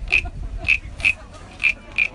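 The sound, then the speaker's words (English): A wooden frog instrument is scraped in quick rasping strokes, giving five or six short croaking ribbits at an irregular beat, bright, with no one talking. “Bigger the frog is, deeper and louder the sound. Smaller it is, the higher and sharper the pitch.”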